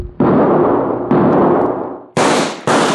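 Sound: gunshot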